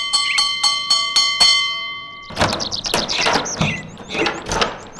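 A doorbell at a house is rung, giving a quick series of bright, metallic strikes for about two seconds, followed by a flurry of high, squeaky chirping sounds.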